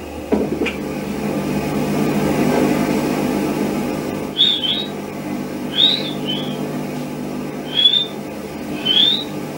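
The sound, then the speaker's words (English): Several short, high-pitched whistles, attributed to a poltergeist and recorded in a bedroom with the family present, come in brief bursts a second or so apart, fairly faint, over a low steady rumble of background noise with no talking. “You'll hear here the whistling first of all and then the barking.”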